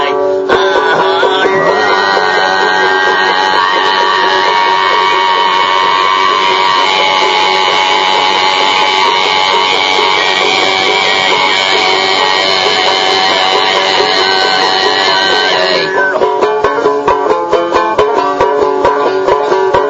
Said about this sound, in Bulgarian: Ми казва, че докато това момче ръмжи, тези свирки, които се чуват, това е пеене. Това е тованско гърлено пеене.